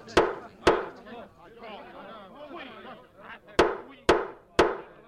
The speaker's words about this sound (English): Seven men are around the table with the mayor at the head of it. They all look very concerned. They're all talking at once. The mayor bangs his gavel.